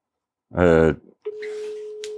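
A short vocal sound gives way to a steady, single-pitched telephone ringing tone on an outgoing call, sustained clearly and evenly until the end with faint background noise.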